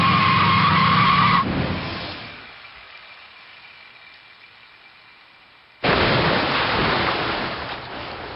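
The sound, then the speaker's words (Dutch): A car skids loudly on a wet road in the rain, its brakes no longer working, a sharp tyre screech with a hiss of spray that fades into low rumble before another loud surge of rushing noise returns. “Niet zo hard. Ja, we kunnen hier makkelijk slippen.”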